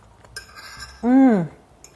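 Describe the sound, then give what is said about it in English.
Two light, bright clinks of a fork against a plate of croquettes with hot and sweet tomato chili sauce, one early and one at the end, with a short, louder vocal hum sliding downward in pitch between them. “hot and sweet tomato chili sauce in lieu of the tartar sauce that I'm going to liberally pour and get myself a fork. I cannot wait to dig in.”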